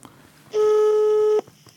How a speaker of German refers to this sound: Das nächste Freizeichen. Es klingelt. Komm schon.